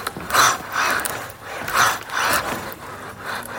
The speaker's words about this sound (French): Voilà, et avec ce petit bruit presque quasi traditionnel, hein, ce petit bruit de moteur qui nous accompagne à ce moment-là.